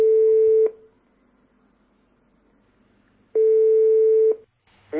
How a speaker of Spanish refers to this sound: Tenemos ya por aquí el teléfono de nuestro primer concursante, así que vamos a darle un toquecito a ver si nos coge el teléfono.